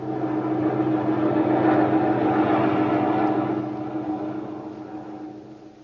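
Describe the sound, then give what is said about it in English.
A steady engine drone of a lone unidentified plane flying over the area, with a deep, humming tone, swelling slightly in the first few seconds and then slowly fading toward the end, with no voices. “There's a lone unidentified plane over your area.”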